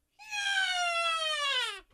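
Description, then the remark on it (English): A voice imitates a screaming bald eagle with one loud, shrill screech of about a second and a half that slowly slides downward in pitch before cutting off, heard alone. “Somebody give me a screaming bald eagle.”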